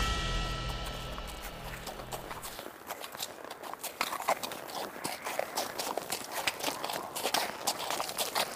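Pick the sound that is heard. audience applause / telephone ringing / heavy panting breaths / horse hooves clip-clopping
horse hooves clip-clopping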